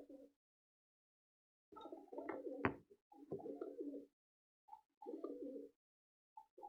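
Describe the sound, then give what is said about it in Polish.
Pigeons coo in a series of soft, low, throaty bursts, several rounded warbling calls with short pauses between them, fairly clear, with no talking. “Tak właśnie gruchają gołębie.”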